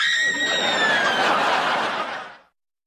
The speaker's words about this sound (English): She's gonna scream now.